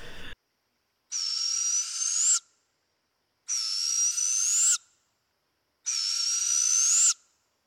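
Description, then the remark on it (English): A barred owl gives three drawn-out, raspy screeching calls, each lasting over a second, evenly spaced with silent pauses between them, clear with no other sounds. “But I think we mainly are just hearing barred owls where we are.”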